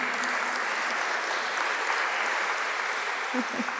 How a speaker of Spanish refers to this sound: Vamos a recibirlos con un aplauso.